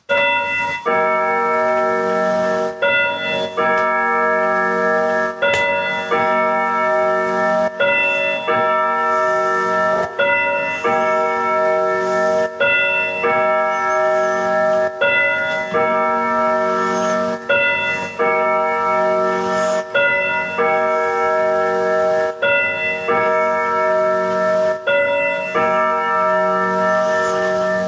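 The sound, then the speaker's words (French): A pendulum clock plays the Westminster chime, its rich ringing bell tones sounding a slow melody in repeated phrases, each note overlapping the last with a lingering metallic resonance. No voices. “Dernière petite sonnerie à l'instant, vous l'aurez reconnu, une sonnerie d'une pendule Westminster pour marquer la fin de notre échange.”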